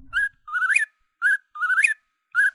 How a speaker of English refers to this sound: It was a whip poor will, which is a nightjar.